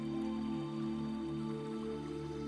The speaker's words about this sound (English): It is starting to rain gently. You can hear the rain.